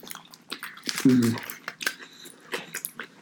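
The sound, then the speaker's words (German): Open-mouth chewing with repeated wet smacking clicks in an irregular rhythm, fairly prominent, with a short low voiced murmur partway through. “Ja, ich bin ja mal gespannt, wie man nachher die Schmatzgeräusche dann hören wird.”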